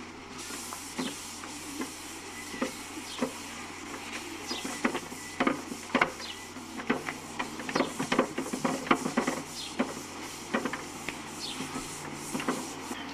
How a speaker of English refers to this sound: And once the stain is dry, then it's time to apply the top coat. And in this case, I'm spraying on some Deft Satin Lacquer. It's pretty easy. I just spray it on, and it usually dries within a few minutes.